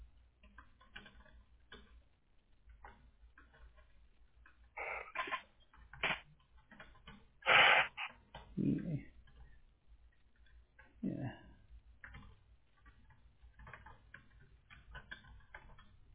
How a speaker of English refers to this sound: I'm typing over to our tech team right now.